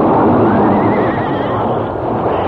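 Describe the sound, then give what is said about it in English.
A lead horse of a stagecoach, wounded by bullets in an outlaw attack, lets out a loud, wavering neigh as it falls and the other horses pile up amid a dense, rumbling commotion, the cry rising and trembling for a couple of seconds with no voices present. “Bullets wounded the fourth guard and one of the lead horses on the coach. As the wounded animal fell, the other horses piled up, and the stagecoach careening turned over.”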